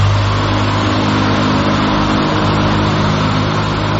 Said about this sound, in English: Once the fan gets going, it will be even more important to communicate without words, as the fan makes talking or even shouting impossible.